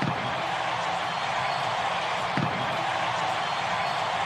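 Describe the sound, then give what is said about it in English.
A baseball stadium crowd cheers in a dense, steady roar after a grand slam home run by Alan Craig of the St. Louis Cardinals, holding at full volume from start to finish, with a single brief thump partway through. “Okay, lots of cheering.”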